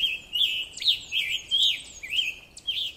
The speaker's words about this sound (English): That includes one of my favorite migrating birds, the scarlet tanager.